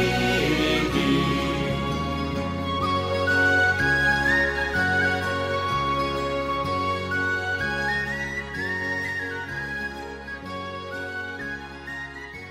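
A bright, high whistle melody weaves over a steady folk accompaniment with a regular bass pulse, playing continuously at a moderate, even volume with no singing.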